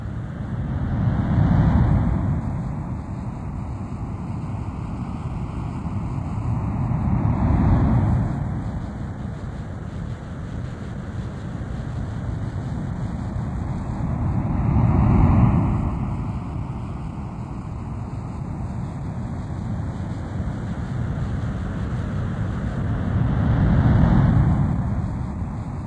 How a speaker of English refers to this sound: as you listen to the sound of ocean surf, move your body into a more relaxed position